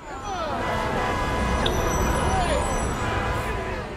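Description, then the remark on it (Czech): A steady, dense rumble of morning road traffic in a jam as people head to work, cars side by side with the occasional truck, engines idling and droning together, fairly loud, with faint voices murmuring in the background. “Na silnicích se tvořily kolony, jedno auto vedle druhého, sem tam nákladák.”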